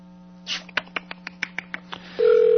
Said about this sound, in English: God, will she pick up the phone? Probably not. We'll give it one more ring.